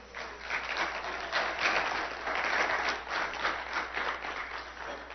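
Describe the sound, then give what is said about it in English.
A church crowd applauds the worship teams steadily for about five seconds, a dense wash of many hands clapping at once with no voices standing out. “And if you want to clap, you can.”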